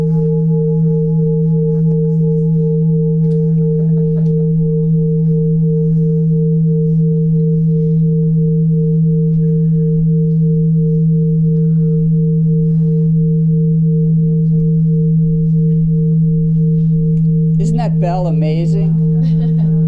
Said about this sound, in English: Stop it, because it seems like it's going to go on ringing forever. Everything is impermanent except the sound of that bell.